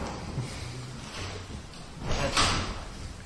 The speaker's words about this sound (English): Hey kids, you have to go out and close the door. You're disturbing the lecture.